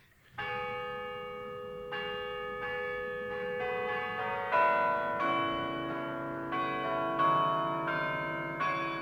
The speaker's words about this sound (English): The very same kind of mechanism that makes a little mechanical clock play a tune also drives the great carillon of the 14th century cathedral tower, which can be heard throughout the city of Utrecht.